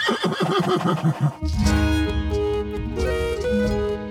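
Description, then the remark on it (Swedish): A horse gives a loud, wavering whinny lasting just over a second, and then steady instrumental music takes over and plays on without any talking. “Nå, de riktiga hästarna, såklart.”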